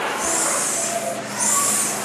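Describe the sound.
Children aged 6 to 7 hiss like a snake in two long, steady breaths with a brief break between them, a fairly loud airy sound with no talking.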